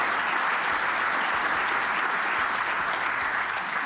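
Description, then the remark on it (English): Sustained audience applause, a dense, steady wash of many hands clapping at an even loudness for several seconds, with no voices standing out. “I hope that's not the last bit of applause that I get, but.”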